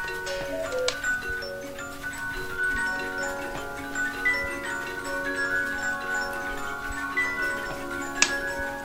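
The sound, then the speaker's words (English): A dense chorus of about 300 antique clocks ticking at once in a workshop, overlapping rhythms, with a few sustained chime tones ringing underneath and a sharp bell-like strike near the end. “The air fills with the sounds of 300 antique clocks in Doyle's workshop”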